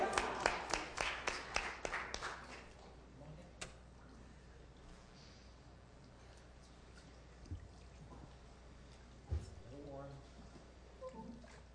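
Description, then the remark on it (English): A short burst of audience applause opens at a church baptism service, then fades into a steady indoor murmur with muffled voices and a few soft splashes of slightly warm baptism water, one louder near the end. “Enjoy some baptisms.”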